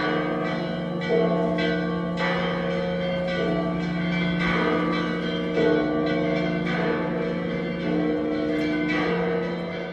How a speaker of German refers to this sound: So klingt die Grabeskirche in Jerusalem, wenn das Glockenspiel voll im Gange ist.